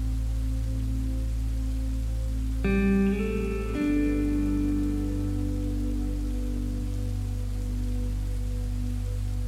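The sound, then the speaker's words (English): Steady, enveloping rain hiss fills the scene at an even level, falling around someone walking a path across a large field, with soft sustained tones swelling in partway through and lingering beneath the downpour. “As you walk, take in the sensation and sound of the rain surrounding you.”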